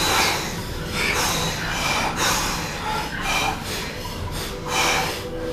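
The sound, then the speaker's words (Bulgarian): Loud, rhythmic bhastrika pranayama (chest bellows breathing) through the nose, a steady series of forceful, rushing inhales and exhales repeating about once a second, with no talking. “Бастрика прана яма. Гръдно бастрика дишане.”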